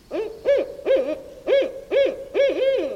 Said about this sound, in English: Or the barred owl.